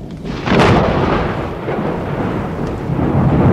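thunderstorm with thunder rumbling

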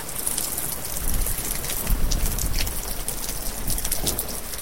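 rain falling

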